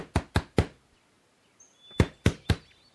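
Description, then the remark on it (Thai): Two sets of three firm knocks rap on the wooden door of a house in a village, distinct and separated by a short pause with a faint high tone in between; no one speaks. “เท่าเคนเท่าเคนเท่าเคนเปิดประตูจักหน่อย”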